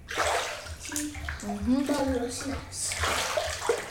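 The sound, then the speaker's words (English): Water splashes and sloshes around in a bathtub, coming over the top of the bath, fairly loud, with a brief child's voice rising over the churning water partway through. “Pull the plug a wee bit, let out some water out of the bath. Because the water came splashing over the top.”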